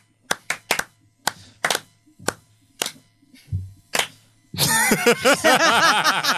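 slow clap

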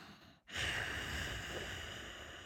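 ujjayi breathing

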